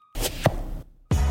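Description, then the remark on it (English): A quick rustling slide of a Kizik hands-free shoe being slipped on, with a soft thump partway through, a pause, then another sudden rustle. Loud, with no talking. “With Kizik hands-free shoes, motion sounds something like this.”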